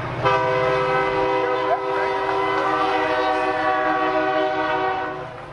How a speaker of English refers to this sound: There we are, out in the heartland. The big train coming